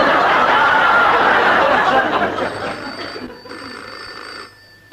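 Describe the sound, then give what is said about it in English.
Audience laughter fills the first half, then fades as a telephone rings with a steady, bright bell tone that carries for a couple of seconds before stopping. “I'm ringing you to complain about that last joke.”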